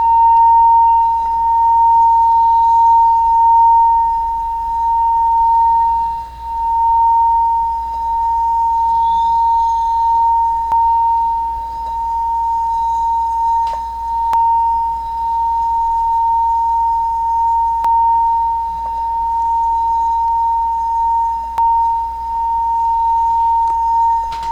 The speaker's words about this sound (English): Imagine every cell is dancing and singing with delight. Every cell is the singing of the medicine bowl.